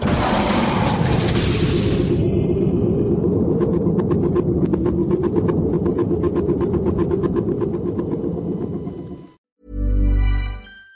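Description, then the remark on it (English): An airlock opens and a shuttle launches during an evacuation procedure: a loud, sustained low rumble with a hissing burst at the start, crackling and rattling throughout, then a sudden cutoff followed by a brief final boom. “Shuttle set for launch. Airlock will be opened in 3, 2, 1.”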